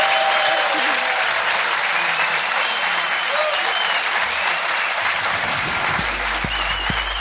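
Sustained audience applause, a dense, steady wash of many hands clapping at full volume for several seconds, with a few sharper individual claps standing out near the end.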